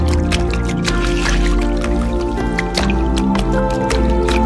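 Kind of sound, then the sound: nature, water dripping and flowing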